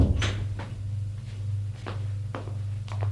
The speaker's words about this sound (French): Elle ferme la porte.